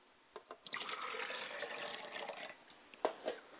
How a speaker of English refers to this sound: I pour libations to the west. And I say Ashe.